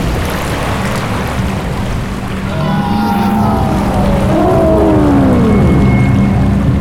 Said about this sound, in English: Water poured from the glass like a tidal wave. The elephant monsters were washed away, and the flood turned the desert into an ocean.